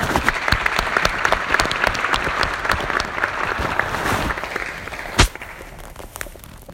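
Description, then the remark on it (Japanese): Sustained audience applause with dense, steady clapping for several seconds, welcoming a keynote speaker at a Rotary International District 2750 event, a single sharp louder clap standing out near the end as the applause thins slightly. “それでは皆様、拍手でお迎えくださいませ。”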